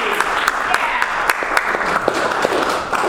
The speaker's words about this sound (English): Can we clap? You can clap.